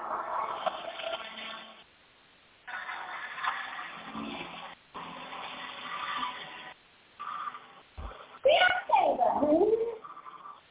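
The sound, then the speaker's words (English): A chair scrapes across the floor in several long, rough, rasping drags separated by short pauses, ending with louder squealing screeches that waver up and down in pitch. “Motion noise of that chair across the floor.”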